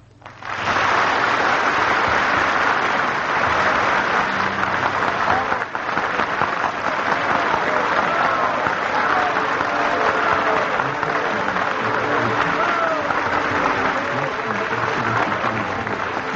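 Sustained, dense applause from a concert audience after a special concert by pianist Ignace Jan Paderewski in Lausanne, Switzerland, broadcast by NBC: a steady roar of many hands clapping at an even loudness for the full length, with faint murmuring voices mixed in and no speech.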